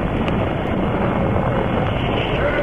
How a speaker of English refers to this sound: The giant stack of the Saturn Apollo, 363 feet of gleaming white equipment, being pushed up through the blue skies of Florida by the force of the first stage engine, 7.5 million pounds of thrust, sending Apollo 11 on its way